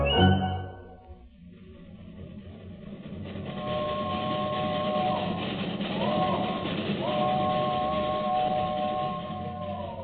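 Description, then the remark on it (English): A train rumbles past close to a shelter in a steady, noisy roar, with high metallic squealing tones rising and wavering over the rumble for several seconds. “A bit noisy at times, so near to the train, but substantial.”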